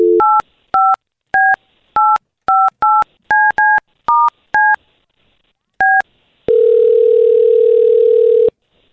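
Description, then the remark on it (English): A rapid series of about a dozen touch-tone keypad beeps punches out a phone number to call someone, then a pause, followed by a steady, loud line tone that hums for a couple of seconds. “We're going to call her right now, okay?”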